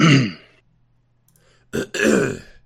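Throat clearing, fairly loud: a rough voiced burst, a quiet pause, then a sharp catch followed by a longer gravelly clearing.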